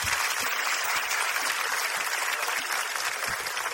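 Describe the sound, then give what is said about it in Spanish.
Steady audience applause fills the whole stretch, a dense wash of many hands clapping at once, loud with no talking over it. “Un fuerte aplauso, un fuerte aplauso.”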